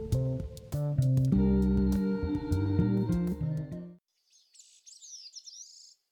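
After a few seconds of instrumental music stops, a Bicknell's thrush sings at dawn on a mountain summit in Vermont among stunted spruce and fir: a swirling, spiraling phrase of high, rapidly rising and falling notes, clear but moderately soft and heard alone for about two seconds.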